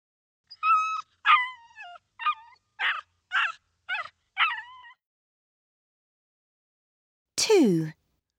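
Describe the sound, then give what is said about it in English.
A small, cold dog under a tree whimpers in a series of short, high, wavering whines, about seven in a row, then a pause before one longer, louder whine that slides downward. No one speaks. “There's a little dog under a tree.”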